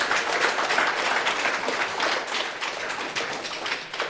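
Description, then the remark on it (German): Steady applause from a crowd, a dense wash of many hands clapping at an even, sustained level for about four seconds with no one speaking over it. “Vielen, vielen Dank. Applaus.”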